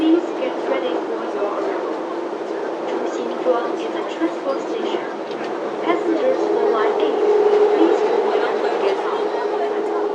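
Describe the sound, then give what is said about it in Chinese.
A Changping Line subway train rumbles steadily as it pulls into Zhuxinzhuang station, a continuous roar with a brief tonal brake whine toward the end and faint, indistinct voices underneath. “朱辛庄站到了。We are arriving at 朱辛庄 station.”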